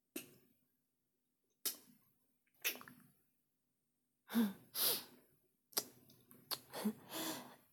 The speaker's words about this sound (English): breathing's getting a bit heavier.